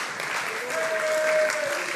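A crowd applauds steadily, dense overlapping clapping filling the whole moment at a fairly even, moderately loud level, with no one speaking over it.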